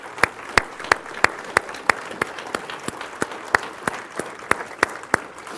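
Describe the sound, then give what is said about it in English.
A standing church audience claps hands together in a steady, brisk unison beat, about three sharp claps per second, giving the Lord a hand clap, over a continuous wash of scattered applause, with no one speaking. “I want you to stand to your feet and give the Lord a good hand clap.”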